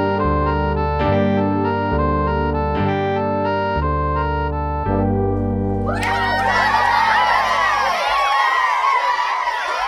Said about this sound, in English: What's that noise? It sounds like shouting. Oh, I think it's coming from the Hippodrome. The what? The Hippodrome. It's the place where the Romans race their horses. I've heard they gamble on them, too.